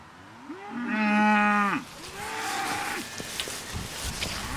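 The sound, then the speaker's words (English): A cow lets out a loud, drawn-out moo, then a second, softer and shorter moo follows against faint outdoor background noise, with no voices. “Cattle just break them.”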